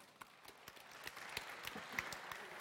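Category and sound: crowd, audience clapping hands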